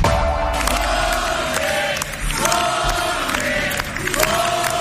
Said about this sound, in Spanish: Así han recibido hoy a Jorge Azcón en la sede nacional del PP en Madrid. Mucho aplauso, muchos vítores